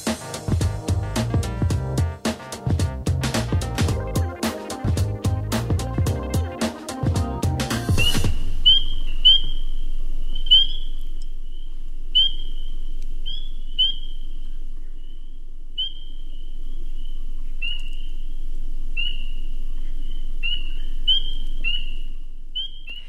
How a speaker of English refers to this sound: That, dear listeners, is the sound of a very tiny frog. It's a spring peeper. And they're out and about now in many parts of Wisconsin.